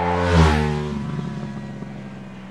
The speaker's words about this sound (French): Ah, je suis étonné quand il coupe qu'on entende un bruit comme ça. Je suis étonné. Mais tu sais, depuis qu'on a monté l'injection sur les motos, les bruits sont complètement différents que mon époque.